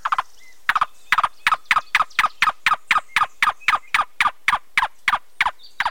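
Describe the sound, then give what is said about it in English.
A cuckoo, a slender brown and white bird with a long white-spotted tail, calls in a long, steady series of about twenty hollow, clucking notes, evenly spaced, with no voices and only quiet background between them. “The cuckoo plucks a caterpillar from its tent and manipulates it back and forth in its bill, taking off many of the bothersome hairs.”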